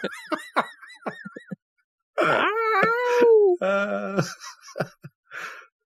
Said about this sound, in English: can I get a sound effect of a really nasty cat meow or something in here somewhere?